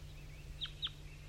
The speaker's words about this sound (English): It's 8:07 now, and the wild bird male that was singing before is also calling now. to some other wild birds down the hollow.